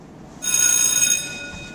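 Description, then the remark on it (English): A fire drill alarm bell rings loudly and steadily for about a second with a bright metallic clang, then cuts off, leaving faint background noise. “Why do we have this fire drill?”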